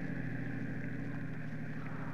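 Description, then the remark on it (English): A car engine drones steadily as the car turns into Ventura boulevard and drives along in the far lane, a continuous low hum with a rough texture and no pauses or voices. “I turned into Ventura and took the far lane, obedient as a whipped pup.”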